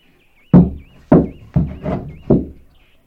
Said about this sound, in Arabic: ترى يمكن أن تكون عمتك؟ نعم عمتي، إنني أعرف طرقها، سأذهب لأفتح الباب.